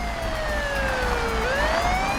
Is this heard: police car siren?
yes